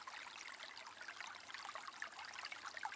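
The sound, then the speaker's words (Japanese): A steady stream flows and babbles continuously, with bright trickling and splashing detail over a soft, even rush of water. No voices are present. “次に耳に入ってくる水の音に意識を向けます。”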